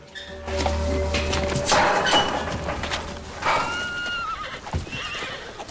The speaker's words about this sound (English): The wild horses enter the temporary enclosure as Tyler and Jesse arrive.